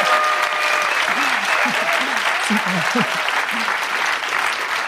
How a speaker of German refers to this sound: Es findet vor Publikum statt. 15.000 Menschen sind hier um uns rum. Und draußen stehen auch noch ein paar, die nicht reinkommen. Sie glauben uns nicht. Hier gibt es einen Applaus